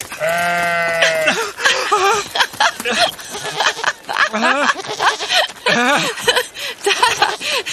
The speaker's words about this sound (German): Das Monster, das ist ein Ziegenbock. Tatsächlich, ein Ziegenbock mit richtig langen Hörnern und einem Halsband.